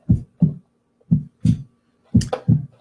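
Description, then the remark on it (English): A played heartbeat sound thumps steadily in paired lub-dub beats, three double pulses over a few seconds, low with silence between them. “Everyone feel a heartbeat, if you could throw a thumbs up or a, I don't know, scowly face or something fun to watch.”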